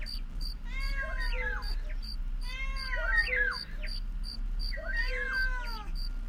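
cat meowing

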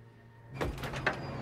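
apartment door closing

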